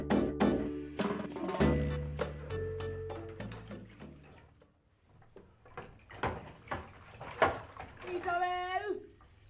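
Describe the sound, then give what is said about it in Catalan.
Tap water runs steadily in a sink while a pile of plates is washed, with sharp clinks and clatters of plates throughout. Voices talk over the washing, and a higher-pitched voice rises near the end. “I jo estic intentant que la pila de plats que hi ha a la pica no es converteixi en la torre de Pisa.”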